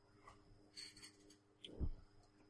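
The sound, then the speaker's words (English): Quiet scratchy handling sounds, then a short sharp crack about two-thirds of the way through as a pencil is snapped, followed by a brief low thump. No one speaks. “Now that you've broken your pencil.”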